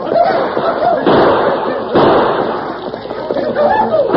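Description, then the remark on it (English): Gunshots crack out in sharp bursts as a band of outlaws charge a grazing herd of longhorn cattle, shouting wildly and firing their guns at close range, over a constant, loud rumbling roar of the stampeding herd, with cries rising and falling through the din. “The band of outlaws charged at the herd with guns roaring.”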